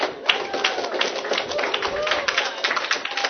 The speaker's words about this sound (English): The reason I let you go early is because I always get applause when I do that.